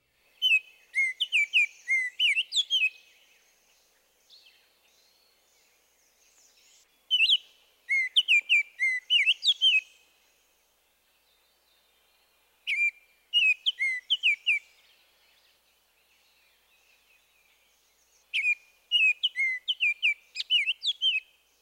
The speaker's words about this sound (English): The northern oriole gives an elaborate flute-like whistle. He strings together melodious phrases and sounds like this.